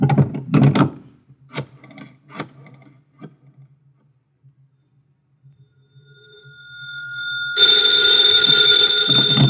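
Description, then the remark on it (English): A few sharp knocks and clicks, then a faint rising tone swells into a loud, continuous telephone bell ringing until the end. “Hand me the phone.”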